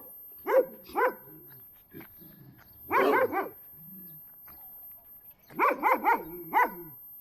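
An untrained dog barks in three bursts, two sharp barks, then a tight cluster of three or four, then another rapid string of four, loud with short silences between.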